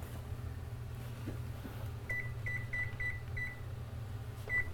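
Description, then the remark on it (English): A series of short, high electronic beeps from a microwave timer being set for 25 minutes to cook mac and cheese, spaced unevenly as buttons are pressed, over a steady low appliance hum with no voices. “Is that the timer?”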